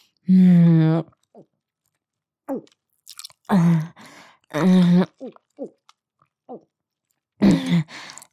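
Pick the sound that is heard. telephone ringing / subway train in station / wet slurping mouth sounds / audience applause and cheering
wet slurping mouth sounds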